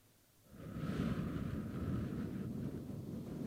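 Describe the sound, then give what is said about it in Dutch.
A person imitates wind rustling between leaves with a steady, breathy whooshing that starts after a brief pause and holds for about three seconds, fairly loud, with a low rumbling edge. “Maar soms, als je echt goed begint te luisteren, hoor je de wind tussen de bladeren ruizen. Kan je het eens nadoen?”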